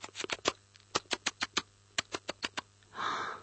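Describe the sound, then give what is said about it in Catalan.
Quick, dry scratching clicks in irregular bursts from a little mouse dragging and scraping, ending with a brief soft rustling hiss. No voices. “Era, oh, no sé, com algú que estava arrossegant i arrossegant. Era el petit ratolinet.”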